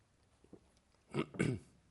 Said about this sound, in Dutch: Even een slokje. Ik heb een heerlijke droge hoest en zo.